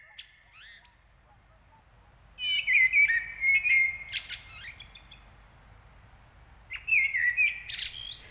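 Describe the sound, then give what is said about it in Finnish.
A Eurasian blackbird sings two rich, flute-like phrases, each a mellow warble rising into higher twittering notes, heard alone against a quiet outdoor background. “Mustarastas huiluineen.”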